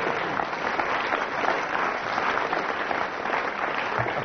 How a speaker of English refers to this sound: And we go on for the next round. Then I get a round of applause. I was right.